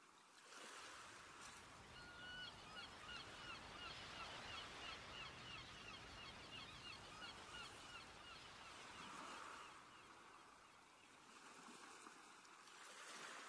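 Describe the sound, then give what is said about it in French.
Gulls cry repeatedly over a steady wash of surf, their calls rising and falling across the scene while waves roll in continuously, with no voices present. “Vous appréciez pour quelques minutes encore le bruit des vagues et des mouettes et la douceur de cette mer accueillante.”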